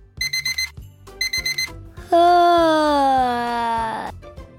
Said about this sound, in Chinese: 闹钟响了，要赶紧起床才行。